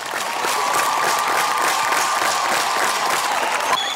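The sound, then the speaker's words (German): Steady, dense applause from a large crowd at the signing of the peace treaty in Maputo, Mozambique, many hands clapping continuously at a loud, even level for the whole stretch, with a faint sustained tone running underneath. “Ein Viertel der Menschen ist katholisch, vor allem im Süden, auch in der Hauptstadt Maputo, wo vor einem Monat unter großem Applaus der Friedensvertrag unterzeichnet wurde.”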